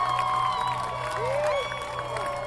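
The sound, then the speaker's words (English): A large crowd of spectators at the Boston Marathon cheers on the runners and claps without pause, with high whoops and whistle-like cries rising and falling above a loud, dense, steady roar. “The crowd cheering on the runners in today's Boston Marathon.”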